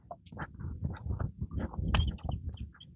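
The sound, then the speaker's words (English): Faint, scattered bird chirps outdoors at midday, short high peeps popping up irregularly over a soft low rumble of ambient noise, with no one speaking. “It's a little chippery.”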